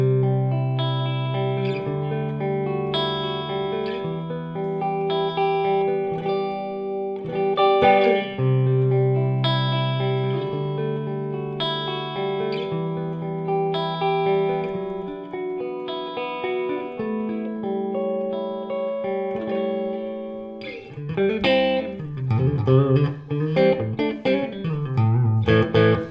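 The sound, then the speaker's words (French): Clean electric guitar through the clean channel of a tube amplifier head, a channel with a single volume knob and no EQ effect, playing ringing chords and sustained single notes at steady volume, shifting into brighter, busier strummed passages toward the end, with no voices. “Alors on va constater qu'on a un son clair très droit. On entend le rebondi des lampes, mais on reste quand même dans de la droiture.”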